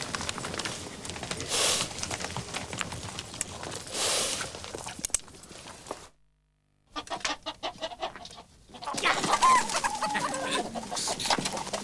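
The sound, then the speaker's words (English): Chickens cluck and squawk in a busy, scattered flurry as a young man walking along a path kicks them away, broken by a brief moment of silence before the agitated clucking resumes, louder and more flustered. “He kicks away some chickens in his path, then heads up to Tunstall's house.”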